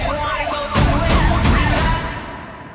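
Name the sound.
emergency vehicle sirens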